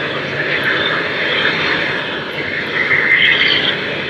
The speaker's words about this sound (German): Was klingt wie ein Flugzeugmotor, sind die Abgasfackeln, mit denen überschüssiges Gas verbrannt wird.